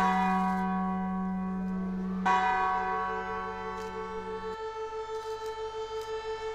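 29 church bells ring out at 4:40 over the centre of Wieluń with rich, overlapping tones, marking the anniversary of the Luftwaffe bombing of the town; one fresh strike partway through, then a long, slowly pulsing hum as the peals fade. No voices are heard.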